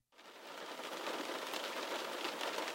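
Steady rain patters against a window, a dense, even hiss of drops that starts abruptly and holds at a constant moderate level throughout, with no voices.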